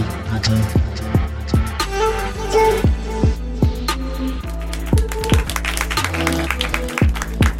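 An audience breaks into steady, loud applause, a dense wash of many hands clapping with sharp individual claps standing out, carried over a sustained tonal backdrop for several seconds.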